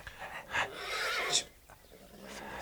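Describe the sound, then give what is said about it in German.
A horse gives a single drawn-out whinny lasting about a second as someone mounts it, moderately quiet, followed by softer rustling and faint movement sounds. “Jemand steigt auf ein Pferd, würde ich sagen.”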